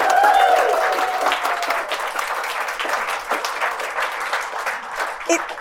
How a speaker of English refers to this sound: Thank you so much. What an amazing panel. A massive round of applause to our panel this evening.